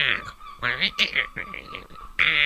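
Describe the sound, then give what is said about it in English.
A voice imitates noisy black-headed gulls with a run of harsh, squawking cries, several in quick succession and then a final loud, drawn-out squawk, with no other sounds. “What you get in East Anglia are black-headed gulls, and they sound really stupid and noisy.”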